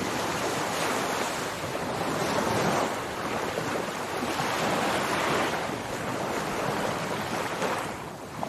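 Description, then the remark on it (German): Powerful ocean waves break continuously in a dense, roaring wash of surf, swelling and easing in slow surges with a steady windy hiss throughout. No voices. “Lausche den kraftvollen Wellen.”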